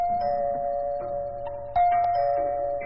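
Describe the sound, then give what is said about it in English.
A doorbell rings with a steady, sustained electronic tone, then a second, slightly louder chime joins partway through, clear, with no one speaking. “It was only an hour later, while she was sewing a dress in the living room, that the doorbell rang.”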